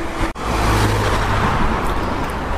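A car rushes past on a roadside where someone waits for a bus, its broad engine and tyre roar filling the whole clip after a brief dropout at the start, with steady traffic noise underneath.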